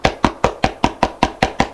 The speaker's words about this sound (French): Elle est réveillée par des coups à la porte.